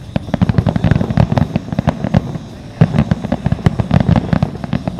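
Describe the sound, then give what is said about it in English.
A fireworks finale launched from a school building in full swing: a dense, relentless barrage of sharp booms and crackling pops, overlapping rapidly with barely a pause, loud and continuous throughout. “Yeah, this is the finale. They go all out on it.”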